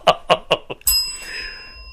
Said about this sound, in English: Ring that bell.